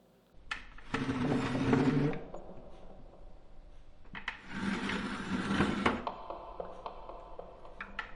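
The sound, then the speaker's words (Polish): A chair is dragged across a hard wooden floor to the middle of a room in two long, grinding scrapes separated by a pause, with a few light knocks and taps in between and at the end. No one speaks. “To był znajomy dźwięk. Ciągnięcia czegoś po twardym drewnie.”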